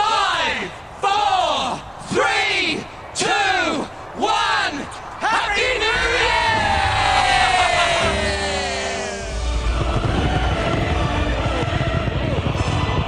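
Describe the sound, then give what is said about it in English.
A crowd of more than a million people in Sydney, Australia chants the New Year countdown to 2011 in loud, rhythmic shouts about once a second, then erupts into a sustained roar of cheers, yells and whistles. “More than a million people gathered there today for the countdown to 2011.”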